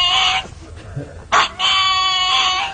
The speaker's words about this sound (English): That's the pug. Dog. That's the pug. It's the singing pug.